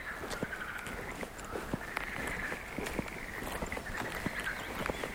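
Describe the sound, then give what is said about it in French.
Outdoors along a path with no people around, a steady, wavering chorus of birds hums over a constant rush of wind, with scattered sharp clicks and taps breaking through at irregular intervals. No one speaks. “J'enregistre les oiseaux, le vent, l'absence d'humains.”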